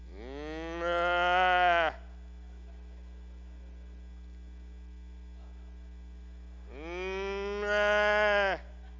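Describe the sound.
A preacher imitates a cow's bellow twice during a sermon, each a loud, drawn-out, rising moo lasting about a second, separated by a long pause over a steady electrical hum.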